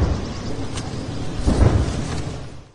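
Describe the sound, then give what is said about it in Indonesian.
A cannon salute fires in the Invalides gardens, France, following Emmanuel Macron's inauguration as French president for a second term: a deep, heavy boom swells up midway through a steady rumbling wash of noise, after a fainter sharp report earlier, then fades away. “Pelantikan tersebut diikuti oleh tembakan meriam di Taman Invalides.”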